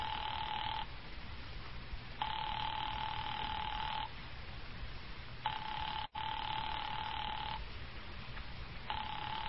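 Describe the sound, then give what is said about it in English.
A telephone ringing heard over the line as the operator rings the party again: buzzy, mid-pitched rings of about two seconds each, repeating with short pauses over a steady hiss. The party doesn't answer and no one speaks. “I'll ring them again.”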